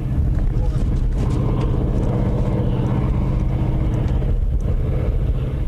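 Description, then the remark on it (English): A steady, low engine roar of huge ore-hauling trucks near the bottom of the Empire iron ore mine near Marquette, Michigan, over 1,200 feet deep, heard from an observation plateau; continuous and droning with a faint windy hiss over it and no clear breaks. “From an observation plateau, huge ore-hauling trucks near the bottom of the mine look small and only create a small roar.”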